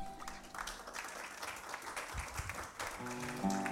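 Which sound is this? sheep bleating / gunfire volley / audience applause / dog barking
audience applause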